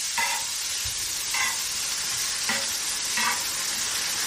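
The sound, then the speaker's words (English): A steady, bright sizzle of pancake batter frying in a hot pan, the pancake turning crispy around the edges, with a few soft scraping strokes at regular intervals and no voices. “Well, nice and crispy around the edges, right?”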